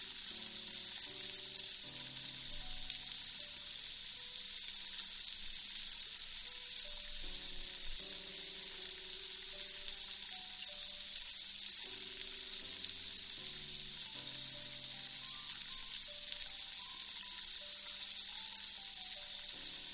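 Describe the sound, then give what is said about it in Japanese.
A steady fizzing like carbonated soda, produced by rubbing hands, hisses continuously for the whole stretch with no talking, while soft low tones shift quietly underneath. “お耳の奥までシュワシュワが行き届いたでしょうか。”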